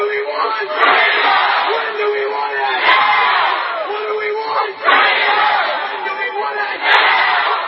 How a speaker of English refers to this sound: A large group of demonstrators gathered around the state parliament in Victoria, Australia, to demand an end to a recently imposed vaccine mandate and protest a draft pandemic bill that would grant draconian powers to officials.